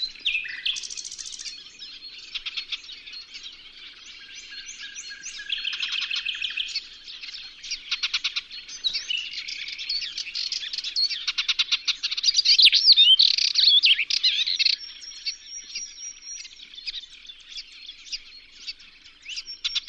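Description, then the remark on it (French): Cetti's warbler and goldfinches singing together, a steady stream of high twittering chirps and quick trills with occasional sharper bursts, continuing throughout with no voices. “Une bouscarde, et puis aussi des chardonnerets.”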